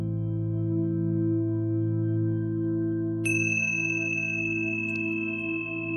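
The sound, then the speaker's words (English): A meditation chime rings twice, a bright, sustained metallic tone with a wavering shimmer, sounding over a steady low humming drone with no one talking, marking a break between scripture verses read during a meditation. “In the breaks, you will hear a chime sounded twice.”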